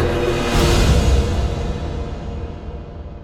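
A steady, soft hiss of rain falling continuously, a gentle wash of patter with no voices, slightly fuller at first and easing a little toward the end.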